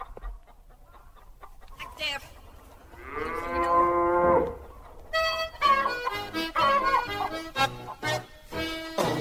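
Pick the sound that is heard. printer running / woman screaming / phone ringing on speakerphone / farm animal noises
farm animal noises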